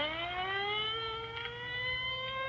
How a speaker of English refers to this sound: Well, there goes the ambulance.